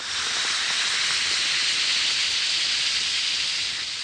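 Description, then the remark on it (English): An Alka-Seltzer tablet fizzes steadily in a glass of water, a continuous bright hiss with fine crackling bubbles that holds evenly for several seconds with no voices. “Yes, that's the mighty welcome sound of a glass of sparkling Alka-Seltzer, about to bring somebody prompt and effective relief.”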